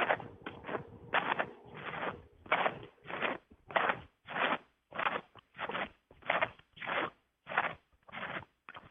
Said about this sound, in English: Who's chewing? Who is chewing?